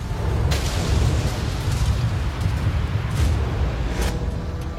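A deep, sustained roar of a massive vapor cloud explosion at one of the UK's largest fuel storage depots, caused by overflowing highly flammable liquid, rumbles continuously with heavy low-end energy and a few sharp cracking bursts punctuating the thunderous blast. No voices.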